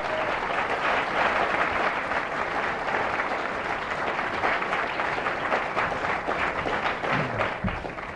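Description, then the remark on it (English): Sustained audience applause at the LSE for a speaker on his return, a dense, steady wash of many hands clapping at even loudness for about eight seconds, with no voices over it. “Please give him a very hearty round of applause on his return to the LSE.”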